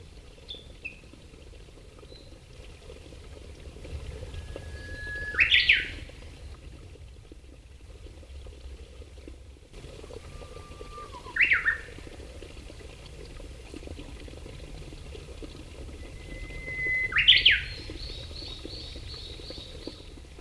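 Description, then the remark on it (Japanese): A Japanese bush warbler sings three times, about six seconds apart, each a long held whistle rising into a sharp flourish, over the steady rushing babble of a stream, picked up by a Mimitaro sound-collecting device. “最後に川のせせらぎとウグイスの集音です。”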